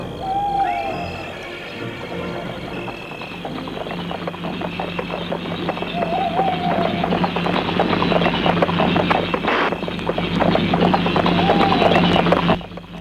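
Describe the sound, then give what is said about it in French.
Steady horse hooves clip-clop along as a horse pulls a cabriolet at daybreak on a cool morning, with a constant rumbling wheel noise underneath and faint bird calls drifting in now and then. “Il s'assoit à côté de lui et le cheval se met en route.”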